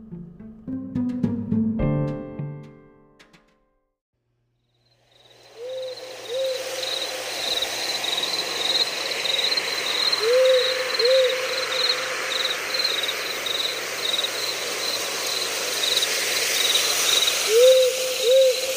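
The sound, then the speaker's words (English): After a short musical opening and a pause, a night ambience in a deep, dark forest in California: a steady pulsing cricket chorus with soft hiss, and an owl giving short paired hoots a few times. “Journey with me as we head into the deep, dark forest in California.”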